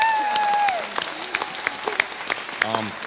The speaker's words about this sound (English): And round of applause for campus, sisters and brothers.